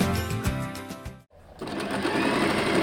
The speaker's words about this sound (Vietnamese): Những chiếc máy may đang chạy vo vo trong một xưởng nhỏ phía trên một cửa hàng ở phía tây Sydney.